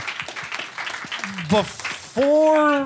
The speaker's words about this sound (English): Give the motherfucker a round of applause, please.